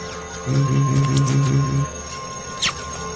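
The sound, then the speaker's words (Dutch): A low, buzzing vocal tone runs through an effect that chops it into rapid stuttering pulses for over a second, then it breaks off, leaving a faint, wavering, pitch-shifted residue. “En die gaat een beetje hikken en een toonhoogte veranderen hier en daar.”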